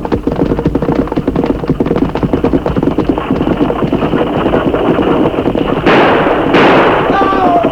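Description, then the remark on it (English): A rapid volley of gunshots rings out over the rumble of galloping hooves as robbers hold up a stagecoach and shoot at its driver, loud, with a sharper burst of shots near the end. “We'll shoot the driver and then ride out and stop the team.”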